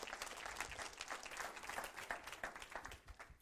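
An audience claps together in steady, dense applause, many hands overlapping into a bright crackling wash that holds at moderate loudness and tapers slightly at the end, with no voices.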